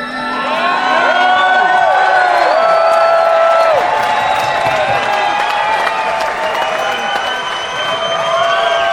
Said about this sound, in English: People just love that song and they start screaming in the middle of it.